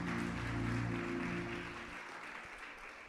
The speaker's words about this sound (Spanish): Démosle un fuerte aplauso al Señor por la vida del pastor Otto Sánchez.